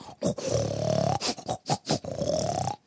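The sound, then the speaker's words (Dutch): A sow grunts loudly while wallowing in a shallow pit that caretakers fill with buckets of clean water: two long, rumbling grunts with a run of short, breathy snorts between them, and no voices. “Daar poedelt ze dan heerlijk in rond, knort hard en geniet.”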